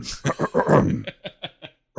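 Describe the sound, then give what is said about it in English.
A voice mimics a Klingon clearing his throat, a harsh, guttural growl: a rough rasping burst, then a string of choppy grunting pulses that trail off into a few spaced, clipped grunts. “What, just clearing his throat like a Klingon?”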